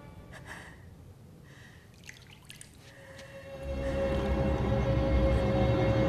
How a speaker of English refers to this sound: The sound of water draws her into an adjoining bathroom, where she finds a vision of herself in a tub of blood-tinged water.